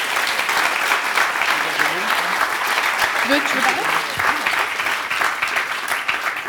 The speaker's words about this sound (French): On peut les applaudir.